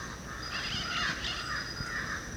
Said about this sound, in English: Here's a crow close to us and then black billed parrots overhead.